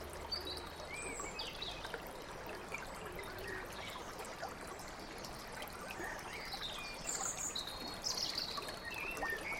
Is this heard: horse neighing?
no